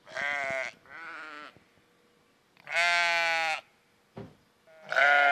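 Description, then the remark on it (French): Sheep bleat loudly in the morning, four drawn-out, wavering cries with gaps between them; the last is cut off, and a short knock sounds just before it. No one speaks. “Ouais, ça c'est sympa, c'est assez bruyant, mais ça fait plaisir, ils nous accueillent toujours comme ça le matin.”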